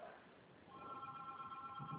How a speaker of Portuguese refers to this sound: Não, é que meu telefone tava tocando.